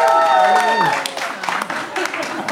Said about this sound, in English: They're really cheering at home, guys.